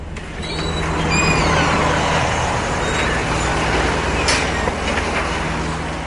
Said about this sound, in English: Just outside his trailer of an office, the arm of a crane methodically swings logs from trucks onto a conveyor belt.